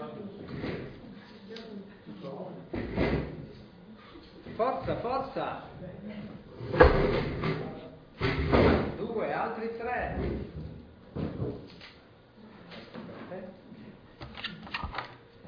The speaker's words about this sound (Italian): Ho bisogno di 5 volontari, velocissimi, se no il tempo. Prendono una sedia e si mettono qua attorno.